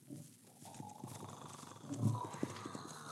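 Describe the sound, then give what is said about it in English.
Horse hoofbeats clop in an uneven rhythm, growing louder as they approach through a faint outdoor background, with a heavier thud near the end; the horse carries a dummy rigged as the Headless Horseman and is sent toward a cabin. “There's a rider coming.”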